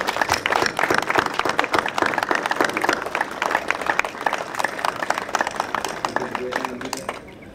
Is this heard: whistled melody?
no